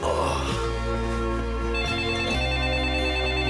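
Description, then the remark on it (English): A phone ringtone plays continuously and fairly loudly, a bright electronic melody with steady sustained tones that shift pitch a couple of times, with no voices. “He scowls at his phone, then answers it.”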